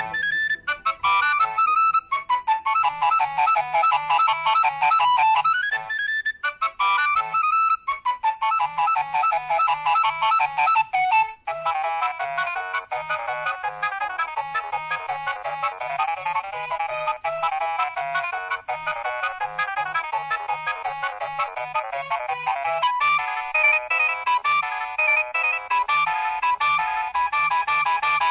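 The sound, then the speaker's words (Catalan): A mobile phone's incoming-call ringtone, a bright electronic melody, plays on its own for nearly half a minute, repeating its looping tune steadily and loudly with a pulsing beat underneath. “fa més de 5 anys que tinc l'aparell i evidentment fa més de 5 anys que sona igual quan rebo una trucada”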